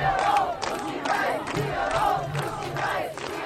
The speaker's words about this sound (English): Hey, anything that gets thousands of people shouting pussy, I love it. I guess there are bigger moral implications, but not for me. For me, just to hear a bunch of people yell pussy, I love it.